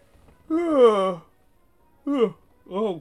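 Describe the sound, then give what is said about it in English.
A drawn-out, voiced yawn that rises and falls in pitch, followed by two shorter groaning exhalations, with quiet pauses between them. “I shouldn't be yawning like that.”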